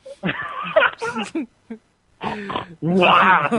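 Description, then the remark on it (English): A voice does pig imitations, a string of nasal, grunting oinks in several loud bursts with short gaps, the last one longer and squealing. “Make oinky noises like a pig.”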